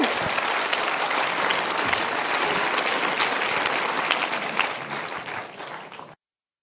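Sustained audience applause, a dense, steady wash of many hands clapping at close range, holding loud for several seconds before tapering slightly and cutting off.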